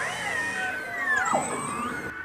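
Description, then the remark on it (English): Beluga (white whale) vocalizations: high, squeaky whistles and warbling tones that glide up and down in pitch, overlapping continuously with a brief descending chirp partway through, steady and fairly loud throughout. “Beluga, or white whales, are extremely vocal whales, with a dozen different vocalizations documented.”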